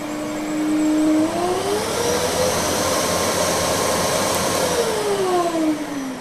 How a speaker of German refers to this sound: Und, erkannt? Richtig, ein Staubsauger.